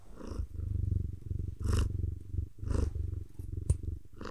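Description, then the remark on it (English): A female cat purrs steadily, a low continuous rumble with rhythmic breathy surges, one brief sharp click partway through, and no voices. “Yeah, now she's like purring.”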